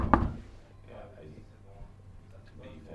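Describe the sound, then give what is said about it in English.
A sharp knock or two on a door marked with a handwritten number 23, in an office building in East London, lands right at the start, then fades into quiet background with faint, indistinct voices murmuring for the rest of the moment. “Marked by a piece of paper with a handwritten number 23, nailed to the door. So we knocked.”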